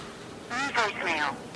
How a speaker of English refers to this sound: Voicemail. It's disgusting people don't turn off their phones.